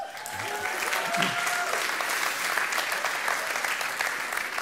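A church audience applauds a member of the speaker's mission team, a steady, dense wash of many hands clapping at an even loudness for several seconds, with a few faint voices and a brief tonal murmur underneath at the start.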